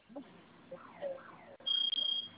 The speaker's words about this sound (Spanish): ¿Se silenció ya la primera alarma? Ajá, pero está sonando otra. Ah, ok, esa no se preocupe, esa es va a dejar de sonar en aproximadamente 10, 15 segundos.